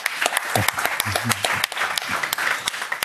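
Applause from a small group, with steady, dense clapping filling the whole stretch and sharp individual claps standing out. Voices murmur faintly underneath.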